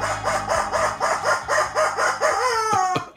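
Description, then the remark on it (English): A chicken clucks in a quick, steady run of about a dozen loud calls, ending with a drawn-out squawk; no one speaks. “Chicken says,”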